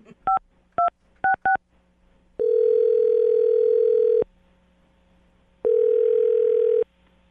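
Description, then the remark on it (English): Four quick touch-tone dialing beeps in an uneven rhythm as a phone number is dialed, followed by two long, steady ringing tones separated by a pause, clear with no talking. “I'm dialing his phone number right now.”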